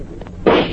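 gunshot

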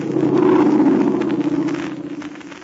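airplane flying overhead

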